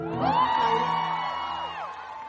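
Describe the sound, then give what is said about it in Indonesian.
An audience at a live song performance whoops and cheers, several high voices sliding up and down in pitch over a steady crowd roar, loud and sustained for a couple of seconds before easing slightly. “kebetulan lagu ini bukan saya nyanyi, tepuk tangan buat nama.”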